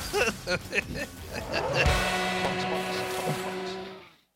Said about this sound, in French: Ah, quel jingle exceptionnel, ouais.